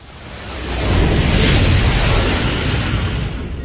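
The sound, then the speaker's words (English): An SS-54 gunship, a light freighter, bangs and rattles as it skips across mists, its ion engines on each side spun horizontal and screaming: a loud, dense, continuous rumble with a rough, rattling texture that swells over the first second and stays heavy, with no voices. “The Halo bangs and rattles as it skips across the mists of Warlag. The ion engines on each side are spun horizontal, screaming loud as the gunship, classified by its manufacturer, Vodachev Shipyards, as a light freighter in order to avoid regulations”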